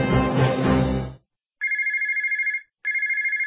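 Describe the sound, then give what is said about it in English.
A telephone rings twice, each ring a loud electronic trill with a short pause between, following a brief burst of dense noise at the start. “If you're in a service business, that's money ringing in your ears.”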